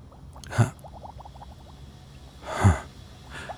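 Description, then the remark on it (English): Water bubbling and fizzing from electrolysis, with wired ends placed in the water: a string of small, close bubble pops, broken by three louder breathy surges of fizzing. No one speaks. “This is the strongest electrolysis I've seen.”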